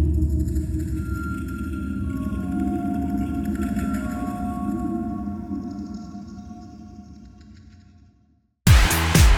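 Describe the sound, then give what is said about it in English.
Deep, wavering whale-like calls from nine elongated humanoid creatures drone over a low rumbling bed, their pitch bending and fluctuating as they slowly fade, before a sudden burst of bright noise cuts in at the end. “Yes, making those whale-like sounds. Listen to them, fluctuating.”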